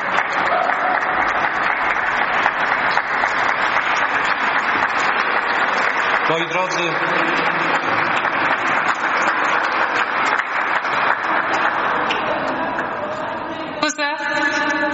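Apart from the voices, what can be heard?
audience applause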